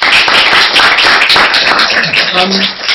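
Steady audience applause for the panelists and practitioners at the close of a workshop, a dense crackle of many hands clapping at once, loud and continuous throughout, with a brief voice briefly rising over it near the end.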